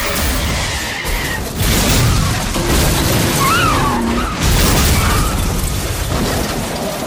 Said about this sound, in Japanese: タイヤ撃たれた。ハンドルも効かない。 僕らの乗った車は横転した。